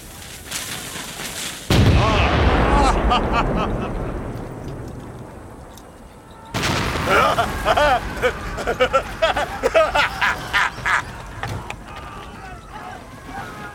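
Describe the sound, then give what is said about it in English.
A heavy cannon volley fired at barracks, aimed 3 points south of west at a range of 2,000 yards, booms out at about two seconds, rumbling as it fades, followed by a second blast and a string of crackling, crashing impacts and debris as the barracks are reduced to rocks, with faint voices in the background. “I like these cannons of yours.”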